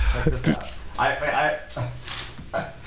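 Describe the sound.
Clattering and shuffling of objects being moved around in a desk drawer as someone searches it for props, with a few sharper knocks, while a voice murmurs faintly underneath.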